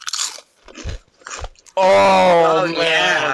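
Three or four crisp crunches of someone biting into seasoned, garlic-flavored Doritos corn chips, each a short dry burst, followed by a loud, drawn-out vocal exclamation that drowns out the chewing.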